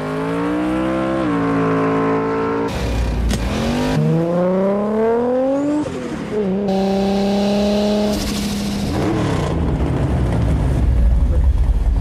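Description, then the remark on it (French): A Nissan Skyline R34 engine revs hard, its pitch climbing and dropping through several sharp gear changes with bursts of exhaust roar, loud and continuous for about twelve seconds. “c'est la Skyline R34 de chez Nissan dans Fast and Furious”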